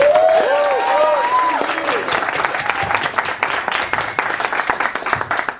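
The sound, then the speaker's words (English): An audience at a panel session breaks into loud, sustained applause as a thank-you to the panelists and to the EFF track for hosting: dense rapid clapping that continues throughout, with a few cheering or whooping voices rising over it at the start. “Need a loud, raucous thank you for the EFF track for hosting us.”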